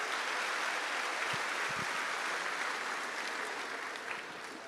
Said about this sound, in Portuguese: Vamos aplaudir a Ele. Amém? Glória a Deus.